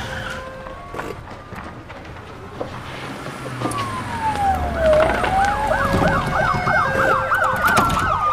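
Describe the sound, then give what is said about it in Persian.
A police car siren during a chase through an alley sweeps down in a long wail, then switches to a rapid, high warbling yelp that keeps cycling and grows louder, with a low engine rumble beneath and no voices. “ماشین پلیس جوانا رو تو کوچه تعقیب میکنه.”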